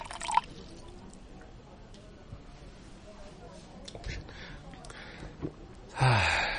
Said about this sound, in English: Here, let me pour you some cold water, auntie.